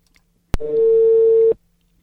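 A click on the phone line, then a single steady, mid-pitched telephone ringing tone of an outgoing call from Radio 90 to a listener in Cieszyn, humming for about a second over faint line noise before cutting off into silence.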